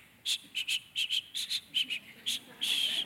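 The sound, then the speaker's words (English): A breathy, airy attempt at whistling a tune: about ten short, hissy notes in a bouncy rhythm, then a longer held note at the end. Fairly soft, with no talking. “My grandfather couldn't really whistle, but he walked around and did this a lot.”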